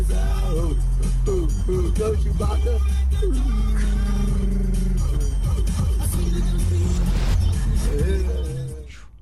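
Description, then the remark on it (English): A car drives along a road with a loud, steady low engine and tire rumble, its pitch rising and falling now and then, before fading out at the end. “I always get nervous when I see videos like that because, look, I don't know what kind of traffic was on that road, but that dog becomes a missile pretty quickly if there's any type of abrupt stop”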